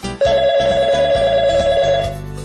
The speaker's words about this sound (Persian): آه، ای بابا، باز دوباره این زنگ زد. ببین، این تلفن رو بگیر، بگو بابام خونه نیست.